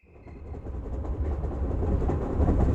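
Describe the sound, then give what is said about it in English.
A passenger train, the St. Louis Flyer, runs on rails with a deep, steady rumble and faint rhythmic clatter of wheels, growing gradually louder; a brief high tone sounds at the start. “On board the St. Louis Flyer, Andrew and Rosanna sat in facing seats in the Pullman car.”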